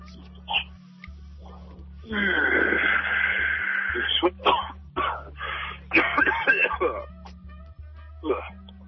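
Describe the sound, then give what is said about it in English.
A run of raspy coughing and throat-clearing sounds, one long harsh burst followed by several shorter hacking bursts, over a steady low electrical hum. “But he's not sure if he wants to cough or not.”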